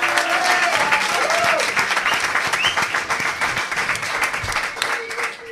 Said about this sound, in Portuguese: Gostaríanos que escoitarades o seu aplauso, porque é unha verdadeira maravilla telos aquí con nós.